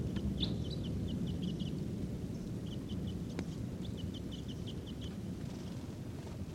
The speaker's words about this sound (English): Birds are calling. They may take off. These are wild birds. Some of the decoys there. Wild. Wild. There they go. One bird just flew a little bit. They're still here. And they're not calling as much. There they go again. Wild birds.